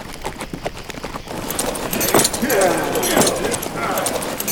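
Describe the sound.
Horses' hooves clop in a steady, uneven rhythm, growing louder as they draw near, with muffled voices and outdoor bustle mixed in behind them.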